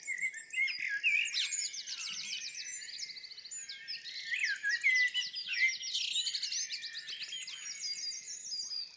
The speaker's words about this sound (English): We can stick with the blackbird, which is the middle mic